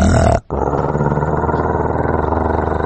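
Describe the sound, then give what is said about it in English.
A male dog named Duke growls in a low, steady rumble that stops for a moment after he is told to shut up, then resumes and keeps going loud and sustained for a couple more minutes with a throbbing, pulsing texture. “I decided to try and ignore him and focus on work, but he went on for a couple more minutes with a steady growl.”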